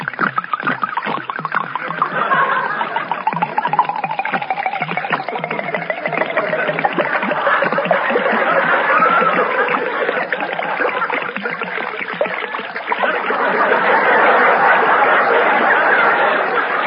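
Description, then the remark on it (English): Liquid is poured from bottles into mincemeat in a steady, splashy stream for well over ten seconds, gurgling and sloshing continuously with no voices over it. “You go ahead and pour it into the mincemeat. I'll pour this bottle in, and then you pour another one in.”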